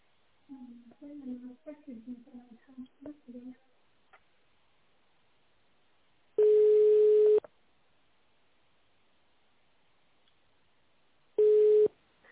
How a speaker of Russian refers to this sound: Если вы знаете внутренний номер сотрудника, наберите его в автономном режиме или дождитесь гудка.